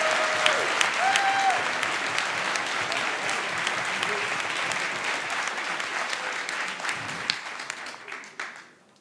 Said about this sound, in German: Jetzt nicht eure ganze Klatschenergie verschwenden. Denn jetzt brauchen wir noch euren Applaus